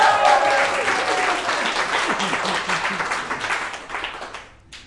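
An audience applauds steadily for several seconds, a dense wash of many hands clapping that fades out toward the end, with faint murmurs beneath.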